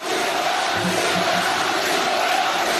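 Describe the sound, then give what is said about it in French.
A large crowd at a rally in Villepinte, France, chants the name "Nicolas" in unison over a dense, steady roar, repeating a few low rhythmic syllables in support of Nicolas Dupont-Aignan, who warmed up the hall for Marine Le Pen. “Nicolas crie les gens.”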